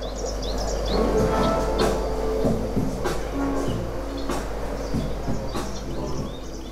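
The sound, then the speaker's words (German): Birds chirp and tweet in quick bursts over a steady electronic music track with a low bassline and regular percussive beats, the birdsong sitting high above the groove throughout, at the Asif, a restaurant and workspace in the south of Tel Aviv. “Vogelgezwitscher und Beats.”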